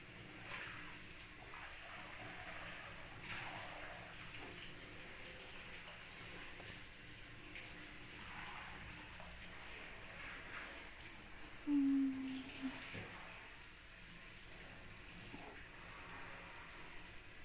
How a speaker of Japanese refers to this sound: 泡立ち悪くなっちゃうから、ちゃんとシャワーで汚れを流そうね。